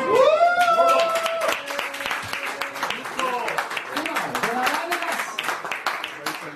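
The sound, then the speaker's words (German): A crowd applauds steadily for several seconds, a dense, continuous patter of many hands, with a rising whoop and scattered shouts of cheering mixed in near the start. “Ein riesen Applaus wert.”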